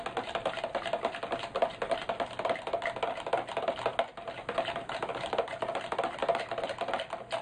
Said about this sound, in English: So you stir like mad to make sure that all the paint has dissipated into the water.